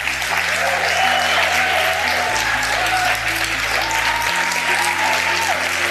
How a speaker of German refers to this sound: ein Applaus.